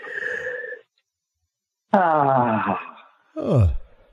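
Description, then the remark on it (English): A big, drawn-out yawn with eyes squinted, ending in a loud vocal groan, followed by another groaning yawn that slides down in pitch, with no talking. “Big yawn. Eyes are kind of squinted, but big, big yawn. Okay. You let out sound at the end of the yawn.”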